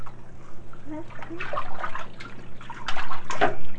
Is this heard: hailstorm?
no